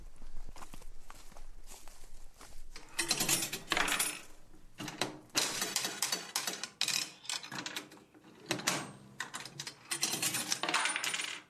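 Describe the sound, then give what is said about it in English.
A penny slot machine, of a kind familiar from the 1950s, at Headhunters, a barber shop and railway museum in Enniskillen, clatters and whirs, then pays out a win in bursts of jangling metallic coins in several bright, rattling runs, with mechanical clunks between them and no talking. “He's trying his luck on a machine that will be familiar to the passengers of the 1950s express. Actually won, and you won a penny and another go.”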